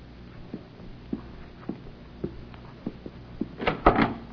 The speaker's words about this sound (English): You answer the door.